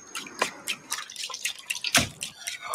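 Liquid drips steadily as coffee is being made, a series of bright, irregular plinks and splashes with a faint trickling hiss underneath, like coffee dripping through a filter into a cup. No voices.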